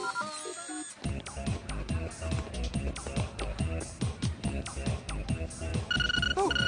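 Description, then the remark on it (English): A phone rings with a loud, busy musical ringtone, a steady rhythmic beat and melody playing on continuously after a brief electronic warble at the start. “My phone!”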